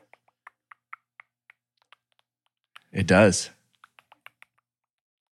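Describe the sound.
A voice imitates Apple computer keyboard typing with a string of short, crisp mouth clicks in a quick, uneven rhythm; another person briefly speaks, then a few more clicks follow.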